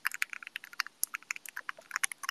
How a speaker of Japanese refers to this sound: めちゃくちゃいい音するやろ。My keyboard makes such a nice sound. The current switches I use areGateron Black Ink V2s with a 60 gram spring inside, but I think I'm gonna go somewhere lighter this time. 60 grams still feels a little too heavy